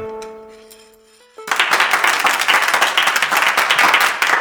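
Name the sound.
enthusiastic applause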